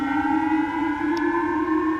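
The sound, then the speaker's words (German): A public missile warning siren sounds alone over public loudspeakers in Japan at 7 a.m., telling people to take shelter: one loud, sustained wailing tone with strong harmonics, its pitch holding steady and creeping slightly upward, with no voices. “Was soll man tun, fragten sich Hunderttausende von Japanern heute früh, als sie um 7 Uhr durch öffentliche Lautsprecher und über Handys aufgefordert wurden, sich in Sicherheit zu bringen.”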